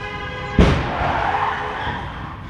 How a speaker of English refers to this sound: Another car crash from the same location on April 9, 2017.